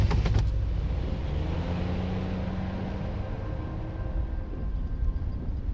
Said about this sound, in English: Detective Blow put Lydia into the back of the police car and pulled out.